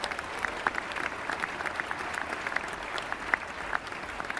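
A crowd applauds steadily in tribute to actor Ian Abercrombie, with dense overlapping claps forming a continuous, moderately loud patter and a few sharper individual claps standing out, with no one speaking.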